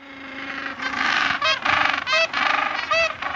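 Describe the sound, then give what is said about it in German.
A seabird named after the donkey for its call gives a donkey-like braying call: a run of loud, harsh, honking bursts in quick succession, each with a nasal, harmonic quality, with no talking over it. “nach dem Esel benannt ist, weil sein Sound so ein bisschen klingt”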